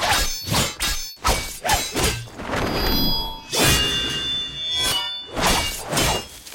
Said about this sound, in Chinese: 到了徐克导演在监制武侠片时，强化剑的声音，特别将金属跟空气共鸣声结合，